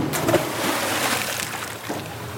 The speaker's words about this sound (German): Der Anker klatscht ins flache Wasser vor einem weiten, menschenleeren Sandstrand.